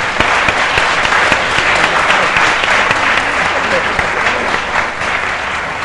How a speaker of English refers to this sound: That concludes the opening contributions from the speakers. Do you think we should give them a clap for a first round and then we'll go to...